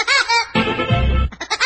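A cartoon woodpecker song: a loud, high-pitched warbling laugh-like call, voiced in imitation of a bird, bursts over brassy music, then quick chattering repeats.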